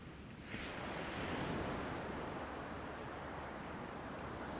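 Ocean surf washes onto the sandy shore at sunrise in a steady, full hiss, one wave swelling and breaking early before settling into a continuous roar of foam, with no voices.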